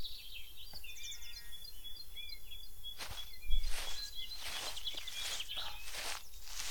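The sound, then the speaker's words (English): Birds chirp and tweet in quick, repeated calls outdoors in the woods, fairly faint, while crunching footsteps join in about halfway through and continue steadily underneath. “Can you hear the birds?”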